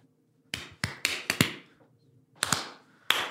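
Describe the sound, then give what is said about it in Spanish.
Sharp hand claps, about seven or eight, land at uneven intervals with no steady beat, a quick cluster, then a pause, then a few more, all without any voices. “Son de los que aplauden así de...”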